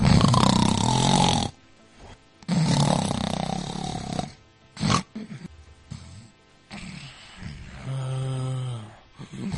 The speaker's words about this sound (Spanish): Pues alguien que ronca, sí, pero... Te has dado cuenta, ¿no? Del espacio de tiempo que de repente se queda ahí. Porque esto pasa, estás durmiendo tranquilamente y de repente puedes dejar de respirar, ¿no? Durante unos instantes.